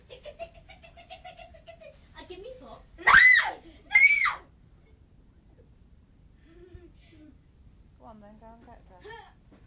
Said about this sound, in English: Stop screaming.